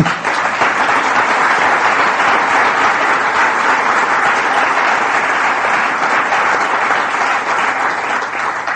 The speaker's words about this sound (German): Von dem Klatschen nehme ich an, dass einige von Ihnen auch wissen, was es bedeutet, konsekutiv zu dolmetschen.